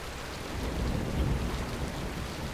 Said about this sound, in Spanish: Fuera está lloviendo a cántaros.